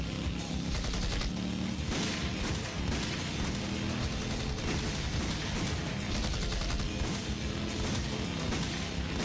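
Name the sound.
gunfire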